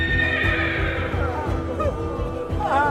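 A horse whinnies loudly, its shrill, quavering neigh sliding downward over a low rumbling background, with a second rising whinny near the end.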